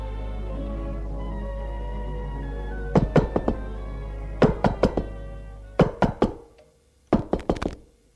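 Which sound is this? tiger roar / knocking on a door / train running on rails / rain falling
knocking on a door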